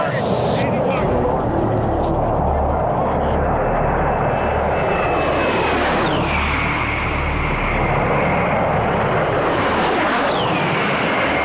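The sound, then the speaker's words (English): An A-10 Warthog jet roars low overhead with a piercing engine whine that sweeps down in pitch as it passes, followed by a second loud pass. Faint voices can be heard under the noise. “Warthogs were a very interesting kind of plane because it's kind of eerie because they get very low and they're just got this whine to it.”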